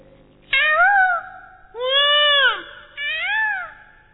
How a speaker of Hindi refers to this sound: मोर